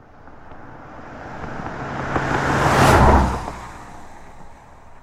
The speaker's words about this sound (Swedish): Denna gång så stannade en bil direkt vid vägen så fort de ställt sig.